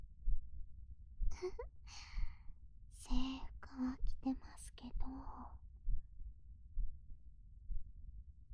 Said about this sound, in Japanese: 今ぴったりくっついちゃってます。私の心臓の音聞こえてます？